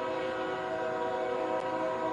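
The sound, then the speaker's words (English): A train passing out of sight near a ballpark during a baseball game sounds a long, steady horn, a sustained layered tone that holds at an even, fairly loud level throughout, with a low rumble underneath and no voices. “And there goes one of those trains. We can't see it. We can certainly hear it.”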